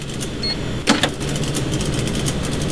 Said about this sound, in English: This is a Subway sandwich shop.